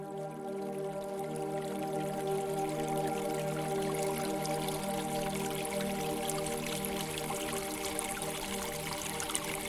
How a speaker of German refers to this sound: In der Ferne hörst du das sanfte Plätschern eines Springbrunnens. Sein Wasser funkelt im Licht der Sterne. Und sein Klang ist ungemein beruhigend.